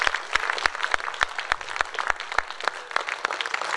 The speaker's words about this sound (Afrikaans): Maak nie saak wat die omstandighede was nie, wat die omstandighede tans is nie, maar dat God vir jou goed was, gee hom die eer, gee hom die lof, gee hom 'n hande klap.